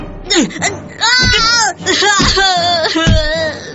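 A child cries and sobs loudly in continuous wailing bursts with trembling, wavering pitch, catching breath between cries, during a school violence incident in which the child resists a bully demanding money and a watch, unaccompanied by other sounds.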